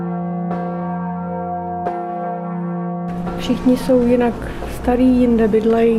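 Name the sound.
church bells ringing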